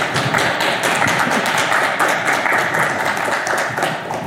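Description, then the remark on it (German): Steady, dense applause from an audience for two presenters after a talk, many hands clapping at once in a continuous loud patter that holds evenly for several seconds with no voices on top. “Nochmal einen großen Applaus für die beiden Vortragenden.”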